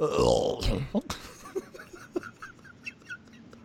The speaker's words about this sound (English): That burp surprised me.